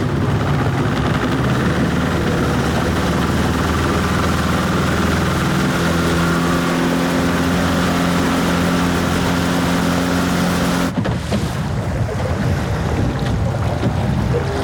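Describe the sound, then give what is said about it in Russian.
A motorboat engine drones steadily with a low, humming tone over rushing wind and water noise, then the engine note cuts away near the end, leaving wind and splashing. “Мотор какой-то, да?”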